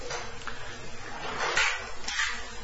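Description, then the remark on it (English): A door being opened, heard as a soft scraping, rustling noise that swells twice in quick succession, moderately quiet, with no one talking. “could you open the door, please?”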